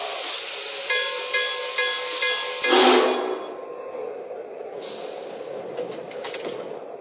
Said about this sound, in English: Ticketed passengers only. Let me help you with your baggage. Now departing for Pocatello on track 1, train number 31, the Utah. Welcome aboard.